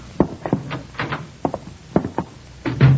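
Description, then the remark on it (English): Heavy, uneven footsteps thump up a set of icy front steps toward a front door, about eight or nine hard knocks at an irregular pace, ending in a louder, longer scuffing thud. “Now I can just get up these steps without falling.”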